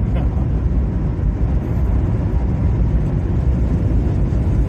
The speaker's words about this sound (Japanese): 車が安定してるってのもあるし、なんか踏んだら踏んだだけスピード出ちゃうってのもあるし、ね、道も広くてね、とっても快適だしっていうのはありますね。今普通にのんびり走ってる感じだけど170キロです。